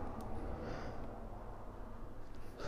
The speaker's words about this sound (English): I needed to probably yawn there instead of holding it back.